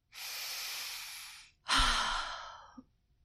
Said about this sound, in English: If you are feeling nervous or stressed, a simple thing can help: a deep breath.